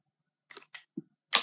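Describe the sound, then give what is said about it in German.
A few quiet mouse clicks at irregular intervals, the last one sharper and louder than the rest, with no talking in between, as someone clicks "Spielen" (Play) to start the current round of a game. “Das ist dann jetzt die aktuelle Spielrunde und ich klicke auf Spielen.”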